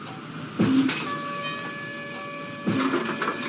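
A Circle Railway train in Rangoon rumbles past with a steady mechanical drone and sustained whistle-like tones, punctuated by two louder clanking bursts, likely wheels over rail joints.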